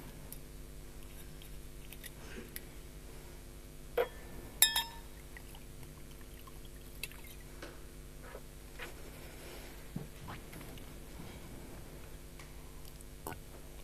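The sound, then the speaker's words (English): A glass clinks sharply a couple of times as someone grabs water to drink during a pause in a Docker tutorial, amid soft handling noises and faint pouring or sipping, followed by a few scattered light taps over a quiet, humming background with no talking. “And I'm going to take a quick moment here and grab some water.”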